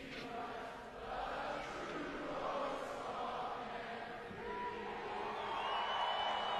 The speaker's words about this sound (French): Écoutez la foule à Edmonton chanter l'hymne national.